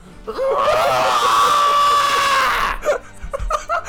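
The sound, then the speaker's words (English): A person lets out a long, loud, sustained scream for over two seconds, imitating the sound made as a train makes contact with one's skull, followed by brief laughter and chatter. “That's the sound you make as soon as the train makes contact with your skull.”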